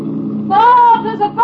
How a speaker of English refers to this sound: There's a boat coming up pretty fast. So what? Well, I hate to spoil the party, but I think it's the Coast Guard.